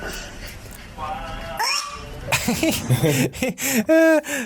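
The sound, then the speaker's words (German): A cat meows several times from a played video, the calls rising and falling with a bright, slightly tinny tone, mixed with background noise and some indistinct voice sounds. “wir gucken noch eine Katze an.”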